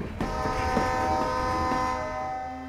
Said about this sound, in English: There's something romantic about a train. To hear the horn blast the air like a herald's trumpet, announcing something powerful is about to come your way.